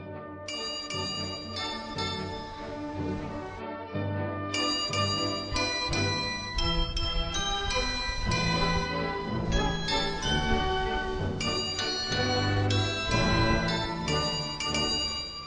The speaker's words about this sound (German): Das ist nämlich das Glockenspiel auf dem Marktplatz in Hildesheim.